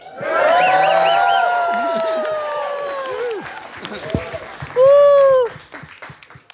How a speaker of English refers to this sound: We're actually broadcasting live from the East City Ranch. And we have about 65 or 70 people, I'm not sure, observing us, hoping we don't screw up. So, anyway, everybody want to give a big cheer or shout out to the BBS Network here?